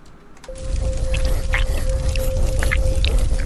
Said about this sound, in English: I think that might be it breathing, whatever it is.